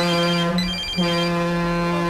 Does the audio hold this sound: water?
no